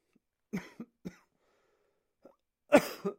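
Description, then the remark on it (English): A run of short, harsh coughs: three quick ones, a pause with a faint catch, then a louder, rougher cough followed by one more. No talking. “Coughing”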